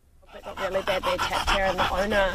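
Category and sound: animal, dogs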